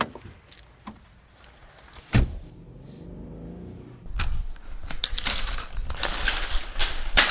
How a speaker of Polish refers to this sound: Za chwilę wsiądziemy do samochodu, pojedziemy do sklepu, żeby przekonać się, czy tak rzeczywiście jest.